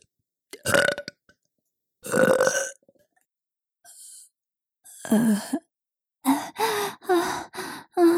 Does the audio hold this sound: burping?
yes